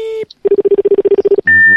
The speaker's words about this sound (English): Uh oh, answer machine. We're gonna get a beep, a long beep in a second. Hold your ears.